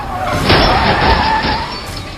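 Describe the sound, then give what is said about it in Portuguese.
Car tires skid loudly in a harsh continuous screech with a rough, noisy roar lasting about two seconds, with no talking, as a car swerves and hits the rear door of a 1961 Imperial blocking the road, which spins on the road. “Mas não dá tempo, vocês batem na porta traseira dele, que gira na estrada.”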